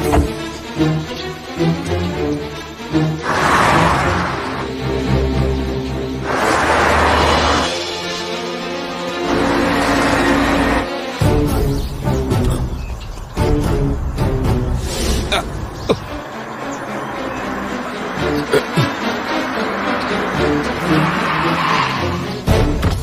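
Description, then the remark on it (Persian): A car swings around with loud, repeated tire screeches and a revving engine as it turns back toward the hospital, the squeals coming in several long bursts over a dense, continuous rumble. “سری دور بزنه ماشین برگردون بیمارستان.”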